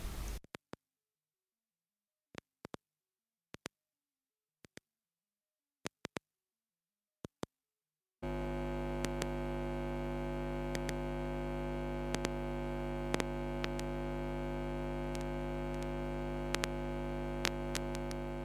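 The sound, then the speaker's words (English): Sparse, sharp electronic clicks in near silence give way to the loud, steady buzzing hum of an open guitar distortion pedal, which drones on unbroken while a few clicks pop over it. “It's the open hum of a distortion pedal and some sort of electronically made clips and clicks, I think.”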